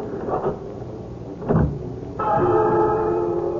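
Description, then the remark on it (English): A few metallic clicks and a clunk as the key to another house turns in the lock of a deserted house's door, then the door swings open with a sustained creak. No one speaks. “I had once before unlocked the door, thinking it was my own.”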